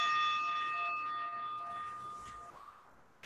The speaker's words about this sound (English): And perhaps you heard that bell. That was already 2 minutes.